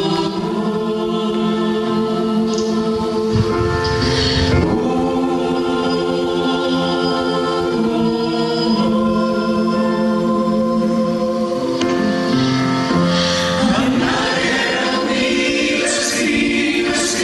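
A choir sings a slow song, many voices blending in sustained, harmonically rich chords. The singing stays steady and fairly loud throughout, swelling toward the end, with no talking.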